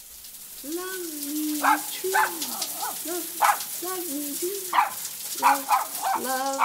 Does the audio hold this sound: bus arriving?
no